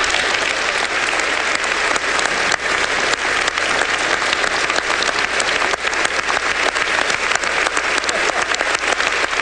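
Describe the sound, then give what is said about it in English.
Loud, sustained applause and a standing ovation from a large crowd of members, dense clapping continuing without a break for nearly ten seconds, with no speech over it. “And that, of course, got the most applause.”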